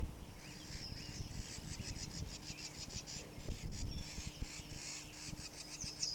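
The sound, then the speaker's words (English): A bird gives a rapid series of harsh, scolding chatter calls, repeated in quick rhythmic bursts over a steady low hum of background noise. “Scolding a bird, possibly near the nest.”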